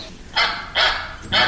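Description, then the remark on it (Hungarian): A duck quacks three times in a steady rhythm, each call a short, harsh, nasal, loud burst, with quiet gaps between them and no talking. “Kacsa. Nagyon jó.”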